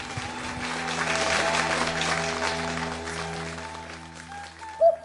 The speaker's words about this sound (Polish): To spowodowało, że nie tylko sala pękała w szwach, ale też, że klaskom i bisom nie było końca.